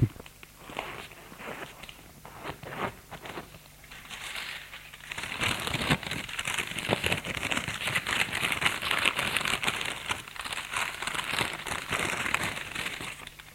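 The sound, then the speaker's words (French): Paper crinkles and rustles continuously as a young man takes a paper-wrapped ham sandwich from his bag and unwraps it during a journey, with irregular crackling bursts growing denser and louder midway, and no voices. “Il range sa radio dans son sac et sort enrobé dans du papier un sandwich au jambon.”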